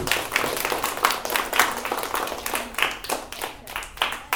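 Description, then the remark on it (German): An audience claps steadily for several seconds for the theatre minister, a dense crackle of many hands with sharp individual claps poking through, holding at a moderate level throughout. “So, das war dein Applaus als Theaterminister.”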